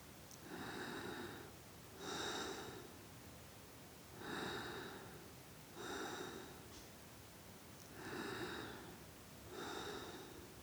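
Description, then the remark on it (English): Heavy, rasping breaths close to the microphone, about six in a steady rhythm roughly every two seconds, each a loud airy rush with near-silent pauses between. “This was some hardcore breathing, which was not amplified.”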